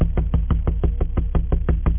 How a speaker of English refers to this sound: By 9 o'clock, I was getting ready to sit down to eat when I heard a knock at the door.